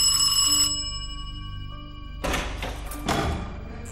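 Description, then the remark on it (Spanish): A bright electronic doorbell chime rings out clearly, its tones sustaining and slowly fading, followed by a couple of dull knocks or thuds. No one speaks. “Sonaba el timbre de la puerta.”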